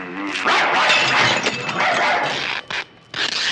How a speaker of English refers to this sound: No, I have an extremely vicious dog in here.